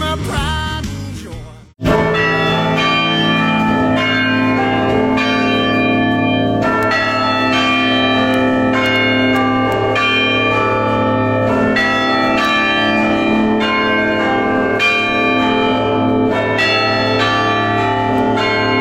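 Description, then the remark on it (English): Large church bells ring out a tune, loud and close, with heavy overlapping tones that hang and blend into a continuous resonant wash after a brief break near the start. “I believe technically there was the largest set of church bells in all of Europe.”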